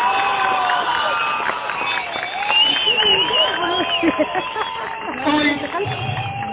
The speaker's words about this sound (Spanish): Quiero que le demos un fuerte aplauso a la distancia a Susana Martínez.